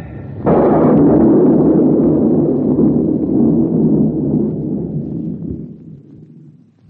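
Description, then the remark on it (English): A sudden loud thunderclap breaks over a steady storm, followed by a long, heavy rumble that slowly fades over several seconds, with a broad windy wash beneath it and no voices. “I'm alone tonight. Alone in the wind and storm.”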